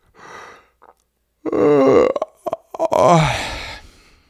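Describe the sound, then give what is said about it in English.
A person lets out a drawn-out, voiced yawn: a soft breath, then a groaning tone that slides downward in pitch, breaks briefly, and swells into a second long exhale before fading. “How many of you yawned just now because I yawned?”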